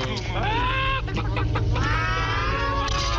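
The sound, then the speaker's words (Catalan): Several voices mockingly imitate chicken clucks and squawks to call someone a chicken, a loud burst of rising and falling bawk-like calls that runs continuously for a few seconds. “I li estan dient gallina, gallina.”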